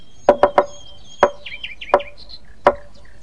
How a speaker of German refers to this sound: dann macht ihr nur auf, wenn ich 3-mal schnell und 3-mal langsam klopfe. Etwa so.